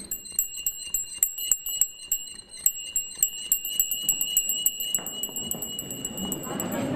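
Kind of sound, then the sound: small hand bell ringing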